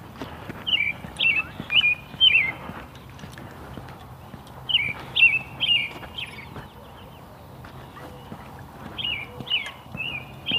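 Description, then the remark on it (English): Grackles chirp loudly in quick, repeated bursts, grouped into three clusters with short pauses between, over a faint outdoor background hum; half a dozen grackles sit in the top of a tree. “Somebody's chirping up a storm.”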